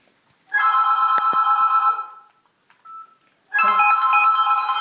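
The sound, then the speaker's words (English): A phone ringtone rings loudly during an interview in two long electronic bursts with a short pause between them, a brief tone sounding in the gap. No one speaks. “Stupid phone.”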